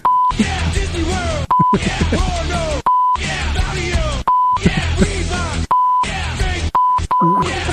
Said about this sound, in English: The beeps are literally are hurting my ears.